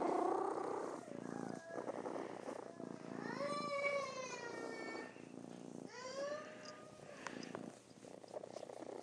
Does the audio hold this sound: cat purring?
yes